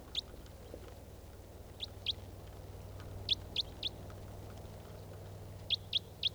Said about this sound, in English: There's a wild bird.